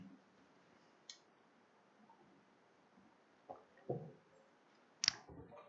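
Quiet handling noises as someone picks up water and takes a drink: a few soft clicks and bumps spread over several seconds, with no talking.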